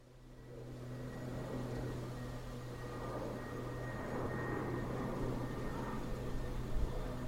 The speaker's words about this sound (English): Thought I'd get a bit of that aeroplane which is going by at about volume 8 on the recorder.